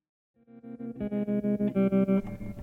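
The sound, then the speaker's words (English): A lone electric guitar rings out with a lush, wet old Fender spring reverb, sounding a sustained chord that throbs in a steady, regular tremolo pulse, fairly loud, with no voices. “Yeah, that old Fender reverb on that guitar. That's beautiful.”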